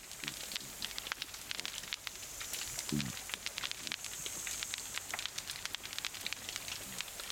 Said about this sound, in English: This is the snap, crackle and pop of pistol shrimps, occasionally with the sounds of grunting cod.